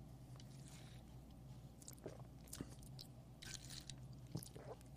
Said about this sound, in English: Bottled water going in.